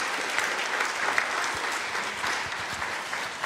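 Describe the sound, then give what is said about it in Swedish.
A crowd in a church clapping steadily for a group of boys, a dense, even wash of applause that holds at the same fairly loud level from start to finish, with no voices on top. “En stor applåd för killarna.”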